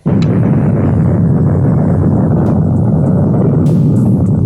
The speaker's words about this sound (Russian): Взрыв выбросил из недр земли более 10 миллионов кубометров грунта.